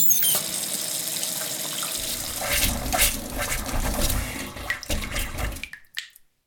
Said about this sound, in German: Das tut doch wirklich gut. Bei den Temperaturen ein schön kaltes Gläschen Wasser aus der Leitung.